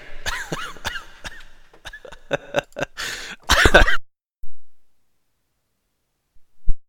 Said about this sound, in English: It made me laugh, which then made me cough, which then made me realize that I'm still sick.